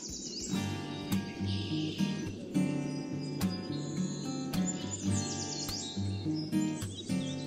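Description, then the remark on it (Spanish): Swallows flying over the Dehesa de Sotomayor natural space chirp and twitter in quick, scattered bursts throughout, clear, layered over a steady low droning background with no one talking. “Están sonando las golondrinas sí, por ahí.”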